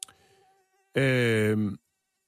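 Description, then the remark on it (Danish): A loud malaria mosquito buzz drones steadily for just under a second, then cuts off abruptly, preceded by a faint thin whine and followed by silence. “verdenskrig, udover selvfølgelig at have, hvad skal man sige, kemisk krigsførelse, også havde gang i biologisk krigsførelse i form af malariamyg.”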